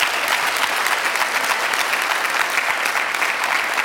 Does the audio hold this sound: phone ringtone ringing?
no